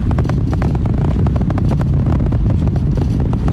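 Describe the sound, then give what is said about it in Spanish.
A loud, continuous deep rumble with a crackling, roaring texture from the engines of a NASA rocket during launch ascent as they increase thrust again, steady throughout with no voices over it. “Como vibraciones, eso creo que es lo que uno escucha, ¿no? Y los motores están aumentando su fuerza de nuevo para continuar el ascenso hacia el espacio.”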